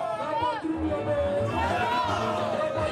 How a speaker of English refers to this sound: The crowd could be heard singing Our Homeland or Death, a motto from Burkina's revolutionary figure and former president, Thomas Sankara.